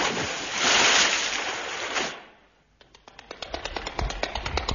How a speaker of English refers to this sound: What is it, lad? It's falling in the water. Dad, someone's drowning.